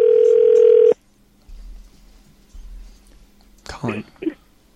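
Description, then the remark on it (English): A loud, steady telephone tone plays for about a second while a call is placed to a live line, then cuts off, leaving a quiet line with low hum before a brief muffled voice near the end. “Don't want to be weird about it, but we're calling the live line.”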